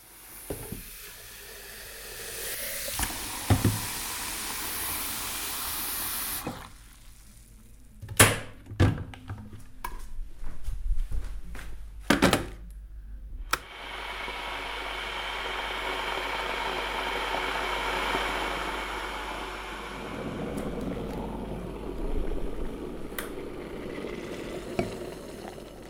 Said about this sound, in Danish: Jeg åbner for vandet ned i min kedel. Jeg sætter kedlen over, og den begynder at suse. Den er færdig, og jeg skal hælde det op i en kop.